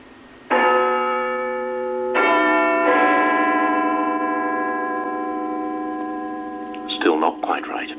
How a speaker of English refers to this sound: The sound of Big Ben has been broadcast live almost without break for over 90 years on BBC Radio. Now over to Westminster, hopefully, for the chimes of Big Ben.